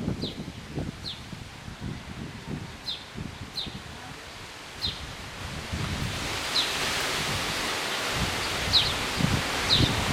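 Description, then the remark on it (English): Wind rushes steadily through trees on a windy day in northeastern France, leaves rustling in a broad hiss that swells louder toward the end, with faint birds chirping intermittently in the background. “I hope you hear the wind through the trees right now.”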